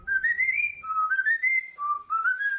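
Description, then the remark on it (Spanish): A pet parrot named Perico whistles the Game of Thrones TV theme tune, a clear tonal melody of four rising, sliding phrases with bright harmonics, steady and fairly loud, no talking over it. “Oye, ¿has grabado alguna vez a tu loro cantando la sintonía?”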